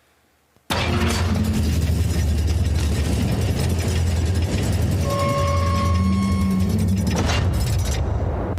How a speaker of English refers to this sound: And then next up, let's listen to this door, which often appears in the game Resident Evil as well. This is in Resident Evil 8 Village.